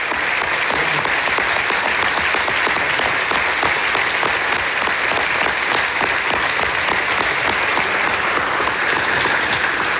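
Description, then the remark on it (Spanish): Sustained, loud ovation from a large audience for Ousmane Oumar after his talk at the IS Business School, dense and steady throughout the ten seconds, with countless overlapping claps forming a continuous roar and no voices standing out. “Esta es la ovación que recibió Ousmane Oumar tras su ponencia en el IS Business School, donde ha terminado su maestría en dirección de empresas.”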